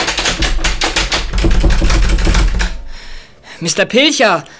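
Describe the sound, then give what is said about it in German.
A key rattles and clicks as a door is locked, a rapid run of metallic clicks lasting a few seconds, followed by a short burst of a voice speaking. “Hey, wer schließt denn da ab?”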